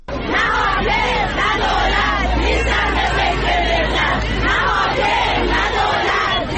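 A large crowd of retired teachers protesting in Isfahan, Iran, outside education offices on a Thursday morning, chants trade-related and political slogans together in loud, rhythmic unison, many voices rising and falling in repeated phrases without pause throughout.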